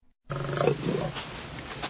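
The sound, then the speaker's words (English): A lioness walking towards a woman gives a deep, rumbling roar that starts abruptly and carries loud for nearly two seconds, rough and growling throughout, with no voices. “She sees a lion walking towards her.”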